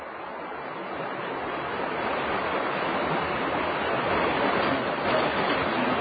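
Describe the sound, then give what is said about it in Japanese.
The Kiso River rushes steadily along the bottom of a valley in Japan, a dense, continuous roar of churning water that swells slightly louder as it goes on, with no voices or other sounds over it. “とはいえ、身構え、右手の谷底に流れる木曽川の川音に怯えつつ通り抜けなければならぬのは、当時も昔も同じこと。”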